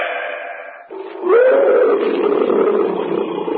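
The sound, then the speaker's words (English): A big cat, probably a tiger in the jungle, lets out a loud, rough roar that rises and holds for a couple of seconds, following a brief burst of muffled background sound. “A cat. Probably a tiger somewhere in the jungle.”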